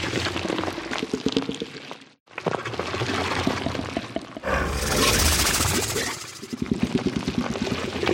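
Wet, gurgling idle breathing, croaking and grumbling of a barnacle creature in a video game: low croaks and grumbling rumbles with breathy hisses, pausing briefly after two seconds, then swelling into a harsher, noisier breath before settling back into bubbling growls.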